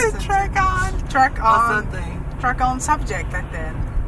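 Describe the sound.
A steady low rumble of a bus engine and road noise runs continuously underneath, fairly loud, while people talk over it.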